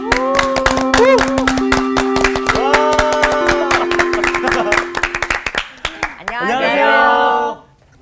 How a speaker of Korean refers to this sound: 갑자기 웬 함성? 아, 성막 첫 번째 시간을 잘 보낸 거에 대한 맞아요. 감사. 아, 네. 자축.